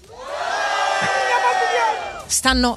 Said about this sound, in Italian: Ricordiamo che siete in 300, ragazzi. Io vorrei che voi vi faceste sentire un urlo per Romana Auto!